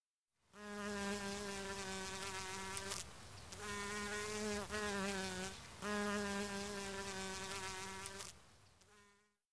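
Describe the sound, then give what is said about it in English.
A bee buzzes loudly and steadily, its droning hum wavering in pitch and briefly dipping a few times before fading out. “It's a bee.”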